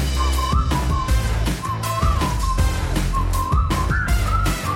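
A bright whistled melody rises and falls over a full, loud band backing with steady bass and drums, the tune carrying clearly on top throughout.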